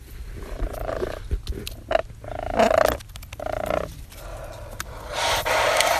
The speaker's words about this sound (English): The last thing people expect is this brolger slowly waltzes up to them, is a growling, pecking, hissing monster.